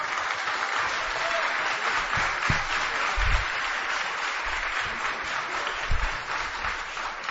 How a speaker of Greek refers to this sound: Και οι περιφερειακοί σύμβουλοι να χειροκροτάνε.